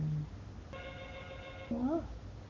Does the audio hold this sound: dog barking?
no